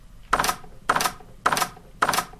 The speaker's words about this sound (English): A closed door. If you hear the sound, prepare to die.